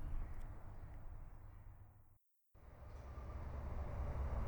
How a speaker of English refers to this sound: So, with the train, what perfect timing. With the train going past us in the background